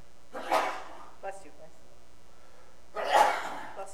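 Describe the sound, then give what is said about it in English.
Two sharp, explosive sneezes about two and a half seconds apart, each a short breathy burst, with a faint intake of breath between them and no talking. “Bless you.”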